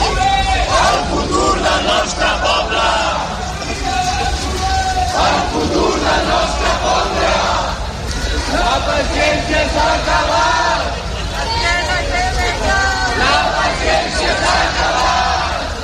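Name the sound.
protest crowd shouting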